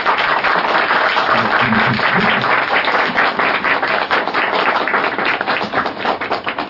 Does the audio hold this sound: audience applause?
yes